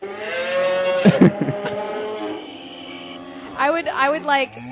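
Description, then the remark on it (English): A drawn-out, wavering moo from a cow-in-a-can toy, nasal and a bit mechanical, lasting a few seconds before fading, followed by brief voices and laughter near the end. “You know, speaking of cow in a can, did you ever have that toy, the cow in a can?”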